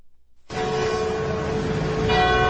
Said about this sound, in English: Belgium is observing a national day of mourning. Bells chimed in unison this morning as millions of people observed a moment of silence for the 28 people killed in a tunnel bus crash Tuesday in Switzerland.